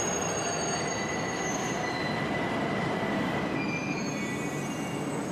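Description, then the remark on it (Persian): A train rumbles steadily at a railway station, its wheels letting out long, high metallic squeals over a dense, continuous roar of rail noise, with no voices. “هاجر یه بچه یه نوزاد بغلشه و توی ایستگاه قطار ایستاده”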